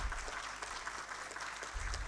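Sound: loud applause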